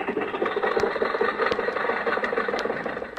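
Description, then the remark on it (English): An old car engine idles roughly and steadily at a traffic light as the light changes, a low chugging rumble broken by a few sharp clanks and rattles, with no one speaking. “Okay, Rochester, the light changed. You can go now.”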